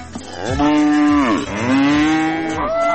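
cow mooing

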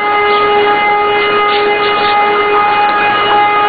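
civil defense siren wailing

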